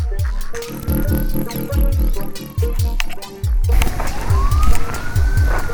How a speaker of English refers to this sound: We hear his sirens every few minutes, constantly, all night.